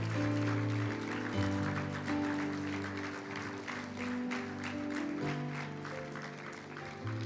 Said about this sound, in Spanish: Gloria a Dios. Siga, siga aplaudiendo. Vamos, vamos, ánimo. Iglesia.